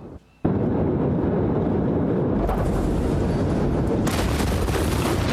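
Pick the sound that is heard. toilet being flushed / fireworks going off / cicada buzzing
fireworks going off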